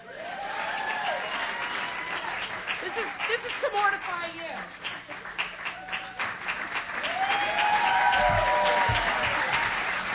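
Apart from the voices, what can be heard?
audience applause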